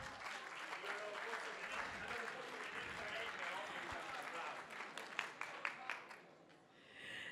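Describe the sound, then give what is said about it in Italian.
An audience breaks into steady applause, a dense, crackling wash of many hands clapping at a constant level for several seconds before it thins out and fades at the end. “Un applauso.”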